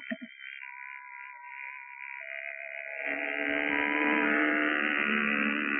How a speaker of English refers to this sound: Lieutenant Cerussi has brought the plane in a dive right over it. You probably heard its approach, and you should have seen everybody duck. She zoomed. By now, she's going into a steep climb at 150 miles an hour.